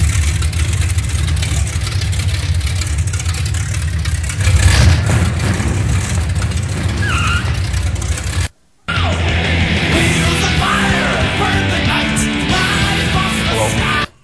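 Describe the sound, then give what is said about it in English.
A car engine rumbles loudly and steadily, swelling into a brief rev before settling back; the sound cuts out for a moment, then the engine noise resumes, still strong. “Or it could be Steve Lavermi's car.”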